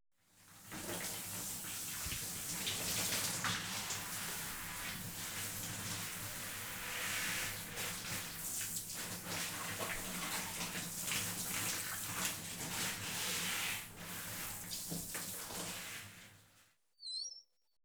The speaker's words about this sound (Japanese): 一度泡を落としますので、シャワーの方かけさせていただきます。失礼しますね。